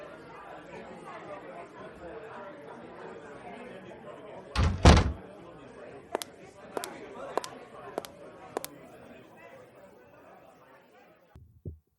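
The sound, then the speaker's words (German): A door bangs loudly partway through as it is opened to let in a guest waiting outside, followed by a short run of evenly spaced sharp clicks, all over a steady murmur of background chatter. “Ich weiß nicht, ob du Besuch erwartest, aber da steht noch jemand vor der Tür. Ey, lass uns die mal reinholen.”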